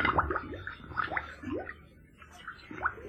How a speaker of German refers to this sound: Du, horch mal. Was blubbert denn da so merkwürdig? Oh, das kann nur der Karpfen Cyprinus sein. Der Karpfen Cyprinus? Ja, er ist schon ein alter Herr mit Moos auf dem Rücken. Beim Schwimmen liebt er es, laut vor sich hin zu blubbern.